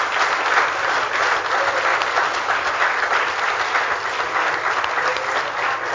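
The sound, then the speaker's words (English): An audience claps their hands for Jesus in a steady, dense burst of applause that stays loud and even for several seconds, with no voices standing out above it. “If you are, can I see your hands clapping them for Jesus?”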